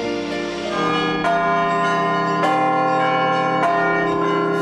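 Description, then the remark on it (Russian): Church bells ring out in overlapping peals, with fresh strikes about every 1.2 seconds over a dense, lingering metallic hum. Loud, with no voices. “Звон церковных колоколов во все времена напоминал православному народу время богослужений, сопровождал все торжественные и печальные события, а секреты мастерства церковных звонарей на Руси передавались из поколения в поколение.”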